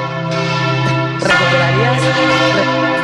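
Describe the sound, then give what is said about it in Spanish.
Church bells ring loudly, their rich overlapping harmonic tones sustaining and clashing, with a fresh strike about a third of the way through and a faint voice buried beneath. “porque las campanas no nos dejan escuchar.”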